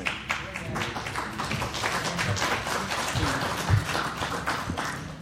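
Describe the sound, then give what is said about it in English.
An audience at a panel discussion applauding steadily as the moderator is invited up, dense overlapping claps sustained for several seconds at a moderate, even level without any talking. “Well, thank you for the warm reception”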